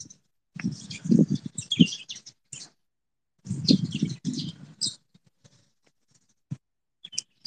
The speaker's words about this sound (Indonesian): Sumpah di sini banyak burung, guys. Iya. Burungnya kecil-kecil tuh, guys, enggak ada yang gede tuh, guys.